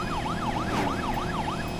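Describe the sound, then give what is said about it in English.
A high-low emergency siren in a driving video game wails in quick, regular rising-and-falling cycles, loud, over a steady low rumble of engine or traffic noise, with no one talking. “Oh yeah, that's the high-low siren.”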